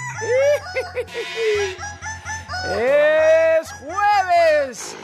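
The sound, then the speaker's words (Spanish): A rooster crows loudly, one long drawn-out crow followed by a shorter one, after some brief clucking calls, over a steady rhythmic thumping beat. “Es jueves de nuestro gallo favorito.”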